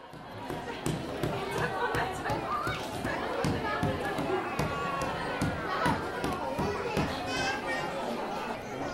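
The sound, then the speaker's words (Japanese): Busy chatter of children and parents playing together with paint, clay and paper in the children's atelier of the Yokohama Museum of Art during a parent-and-child free zone session, with overlapping voices, shouts and sharp taps and knocks scattered throughout at a steady, lively level. “子どものアトリエでは月3回親子のフリーゾーンを行っています。絵の具、粘土、紙の素材をたっぷり使って親子で遊べる造形広場です。”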